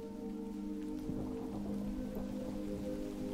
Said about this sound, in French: Le ciel s'assombrit brusquement et quelques gouttes de pluie s'échouent sur votre visage.